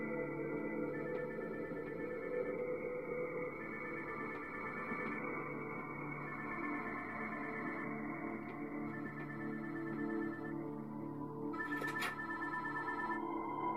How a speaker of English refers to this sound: Is that a phone ringing? Where's that coming from?